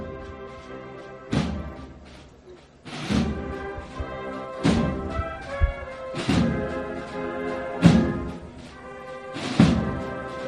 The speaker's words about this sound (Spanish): La Virgen traspasa el Arco de las Granadas y comienza a sonar la campana. Ahora tal vez que solo se escuchan los tambores, tenemos con más nitidez ese sonido de campana de fondo.